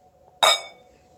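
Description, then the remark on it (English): A single bright clink of glasses touching in a toast, with a short ringing tail that fades quickly; clear, with no talking. “So cheers. Cheers to that.”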